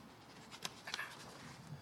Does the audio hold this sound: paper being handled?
yes